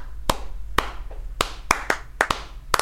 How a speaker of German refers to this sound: Und wo ich immer stolz war, wenn ich es geschafft habe, dass jemand eine Klave klatschen kann. Mhm. Also immer die 3-2-Klave. 1, 2, 3, 4.